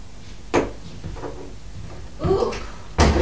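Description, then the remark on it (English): A door swings shut with a couple of sharp knocks and a rattling thud, with some shuffling and handling noise between the impacts. “You get Buzz Lightyear, just shut this door because it's cold in here.”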